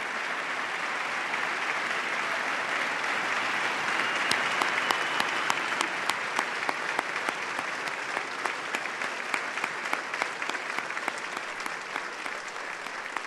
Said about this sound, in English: People are rising to applaud Mrs. Obama and Mrs. Biden.